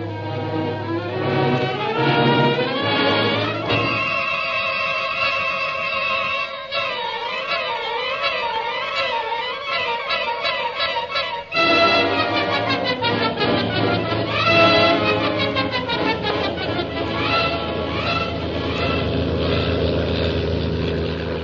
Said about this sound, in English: Meanwhile, Shanghai Lil's plane carrying Jim and Kolo roars on along the China coast.